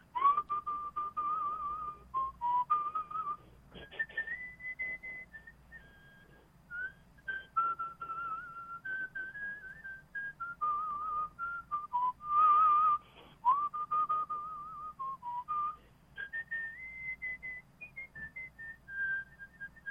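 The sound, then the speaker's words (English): A person whistles Battle Hymn of the Republic, a steady, clear melody, the pure tone gliding between sustained notes and short phrases for the full length, with no talking over it. “This is I'm going to do Battle Hymn of the Republic, which I whistled for George Bush in the Oval Office.”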